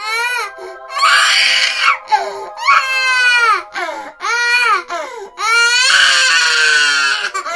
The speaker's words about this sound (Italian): Il bambino strillava per la fame e doveva essere nutrito.